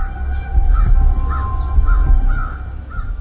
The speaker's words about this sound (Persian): توی محوطه جلوی بیمارستان کلاغا قوقایی به راه انداختند. برم تماشاشون کنم.